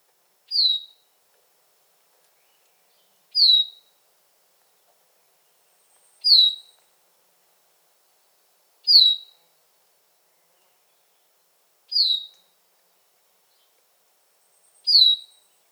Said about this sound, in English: The Bicknell's call note is a harsh, penetrating whistle, typically slurred downward. Some observers recognize it as beer, veer, or peart.